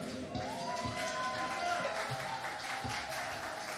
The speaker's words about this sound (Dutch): Ik wil toch even een applaus geven voor onze Piet en Eentjes hier.